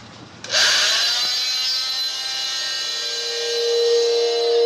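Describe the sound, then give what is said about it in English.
A high-pitched powered autopsy saw whines into life and grinds steadily for several seconds, cutting through bone during the autopsy examination of an adult female body, its dense buzzing harmonics holding loud and even. “Commencing section of bone.”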